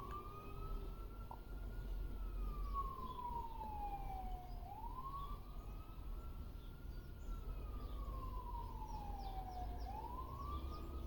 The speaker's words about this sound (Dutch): Ik hoor nu buiten een sirene.